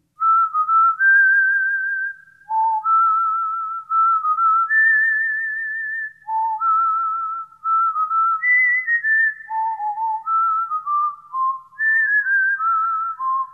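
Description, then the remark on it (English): A clear whistled melody with bright sustained notes stepping up and down in a lively, catchy phrase, repeating for several bars with short breaths between phrases and no talking. “That's a catchy little tune.”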